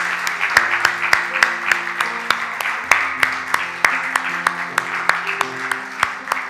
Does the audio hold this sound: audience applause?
yes